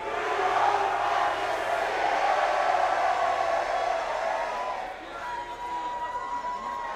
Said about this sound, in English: So on the count of three, everybody yell New York fucking city. Ready? One, two, three.